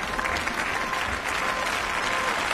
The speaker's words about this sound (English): The applause was loud, but not as loud as it might have been. Last night, Ursula von der Leyen became the first woman to be appointed president of the European Commission, after a secret ballot by members of Europe's Parliament.